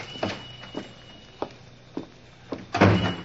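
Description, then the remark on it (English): The door of a small cigar store being opened as someone enters: several soft, evenly spaced thuds lead into a louder, rattling clatter of the door at the end, with no talking. “He got in a bus, and 10 minutes later, he was entering a small cigar store in one of the less pretentious neighborhoods.”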